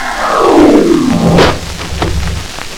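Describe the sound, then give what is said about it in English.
A loud, roaring gust of wind sweeps downward for over a second as a wolf blows down a house of twigs, followed by a few sharp snaps and rattling clatter as the blast dies away. No one speaks. “His house of twigs was blown clean in, and he too was carried away to the wolf's cave”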